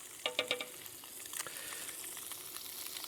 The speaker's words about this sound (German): Also es brutzelt jetzt gemütlich vor sich hin und wird jetzt braun werden. Sagen wir erstmal, es wird braun werden.